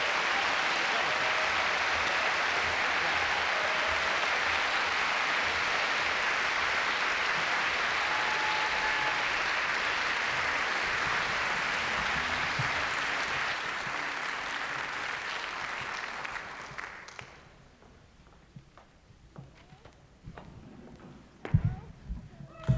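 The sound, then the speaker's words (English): Sustained audience applause after a live folk song performed by two musicians, a dense steady clatter of many hands clapping for about sixteen seconds before tapering off into a few scattered claps and faint murmurs. “Let's have another round of applause then once again”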